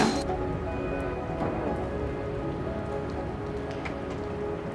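Heavy rain pours down steadily in the early morning outside a hospital emergency department, a dense hiss of drops pattering on hard surfaces with no break, loud and constant throughout.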